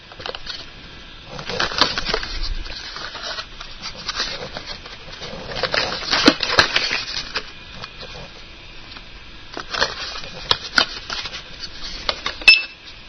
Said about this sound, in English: So I'm moving these light bulbs a few inches under the scanner, which is the open square area. Just moving them around, looking for the code.